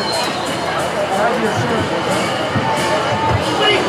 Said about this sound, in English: Runner here's the first, and the crowd is going absolutely mad!